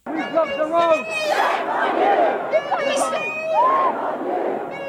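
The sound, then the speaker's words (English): A large crowd of pro-Palestinian protesters outside the BBC's headquarters in London shouts "BBC, shame on you" in unison, a dense roar of many voices with rising, chant-like cries overlapping throughout, loud and steady with no pauses. “They're shouting, BBC, shame on you, as they accuse the British broadcaster of pro-Israeli bias.”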